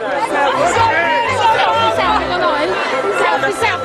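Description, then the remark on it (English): A lively crowd of young voices shouts and chants "Selfie, selfie" to Pope Francis in St. Peter's Square on Palm Sunday, loud and dense, with overlapping excited calls forming a steady, rhythmic clamor. “Here you can hear young members of the crowd shouting to the Pope, "Selfie, selfie," and he did have selfies.”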